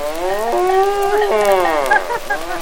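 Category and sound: animal, cow mooing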